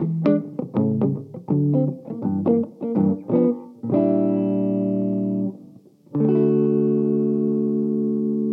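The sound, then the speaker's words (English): A white electric guitar with two humbuckers, rolled fretboard edges and a matte vintage-style finish, played on its neck humbucker pickup: a quick run of picked notes, then two loud, warm chords ring out and sustain, with no talking. “These two humbuckers, volumes and tones. Go necky.”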